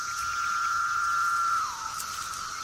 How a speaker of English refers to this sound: stream of insects is so relentless that soon all the predators are full to the point of bursting. And still the cicadas come.